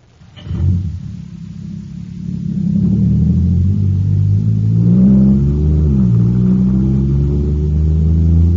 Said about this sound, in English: Wow, this jet cycle is supercharged now. Sure thing, it's got super fuel.